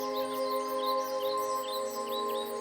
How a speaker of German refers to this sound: Und wunderschöne Vogelmusik klingt von den Bäumen.